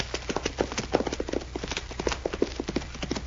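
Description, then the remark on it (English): Rapid clip-clop of horse hooves at a steady gallop rhythm, prominent, with a low rumble underneath; a rider on horseback coming back along a trail. “A rider coming back this way.”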